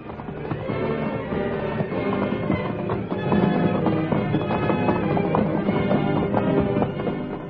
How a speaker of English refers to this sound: Once, when Standing Bear's horse lost his footing, his master's life was saved only by the quick action of Whitefellow, whose powerful shoulders pushed the wiry little Indian pony back to safety.